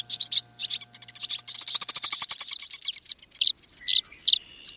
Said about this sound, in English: Swirling overhead, dozens of birds swoop and glide in pursuit of insects. Are they swallows or swifts?